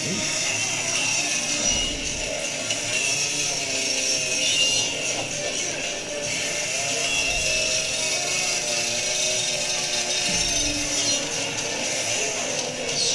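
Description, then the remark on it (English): A chainsaw runs loudly and steadily for the whole stretch, its engine holding a harsh, buzzing drone with slight rises and dips in pitch. “We're a pipe to a chainsaw fight.”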